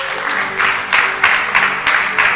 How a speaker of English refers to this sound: Once again, clap for pastors.